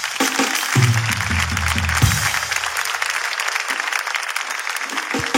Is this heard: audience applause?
yes